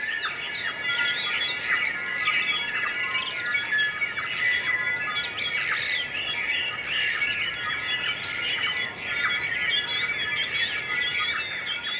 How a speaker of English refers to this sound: It's not even close to the original soundscape. That's what experts say, but it's sort of close to what might have been the soundscape of New Zealand. And here's a dawn chorus soundscape.